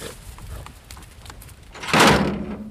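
A wild hog scrambles across metal, its hooves clattering and knocking for a couple of seconds before a sudden loud, harsh squeal close by. No one speaks.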